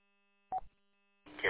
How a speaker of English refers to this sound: Generally, we can push the button if we need to, but what I've observed is when they see you come up on camera, they know we're meeting, and so they just buzz us in. You'll hear the buzzer on the door lock.